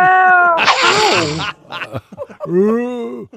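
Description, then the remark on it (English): A cat, Mr. Kitty, meows loudly: a long, rough, yowling call, a few short clipped sounds, then a second drawn-out meow that rises and falls. “'Cause there's no one else here. Except for you, Mr. Kitty.”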